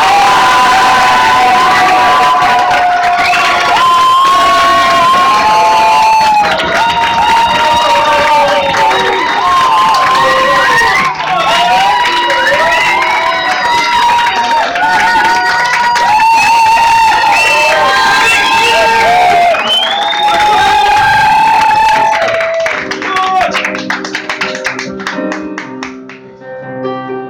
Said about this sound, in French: Chaque fois que quelqu'un fait une goguette pour la première fois, on l'applaudit deux fois plus fort. Mesdames, messieurs, vous allez applaudir deux fois plus fort.